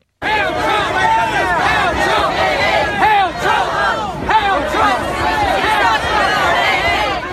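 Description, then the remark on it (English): A dense crowd at a rally, white supremacists shouting and counter-protesters chanting in response, many overlapping voices rising and falling in steady, loud waves with no clear individual words. “White supremacists shouting Heil Trump, doing the Nazi salute as counter-protesters chanted in response.”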